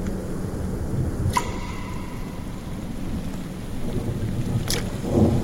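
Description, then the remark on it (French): Heavy, torrential rain from a thunderstorm pours steadily with a dense hiss and low rumble, broken by two brief sharp whooshes passing by. “Et soudain, au milieu des torrents de pluie, une sorte d'objet volant traversa l'air et s'abattit lourdement au pied de Philippe.”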